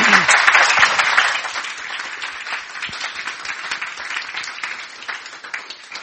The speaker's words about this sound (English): We should give them a round of applause.